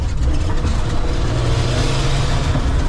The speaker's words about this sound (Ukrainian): Машини.